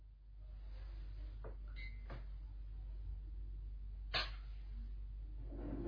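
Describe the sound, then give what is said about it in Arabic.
A door is handled and shut, giving a few short clunks and a sharper knock near the end, over a steady low hum with no talking. “اغلق الباب عندك”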